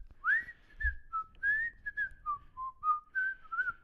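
A bright, clear whistled melody of the Andy Griffith Show TV theme tune, played as a string of sliding and stepping notes at a steady, relaxed pace, alone without talking.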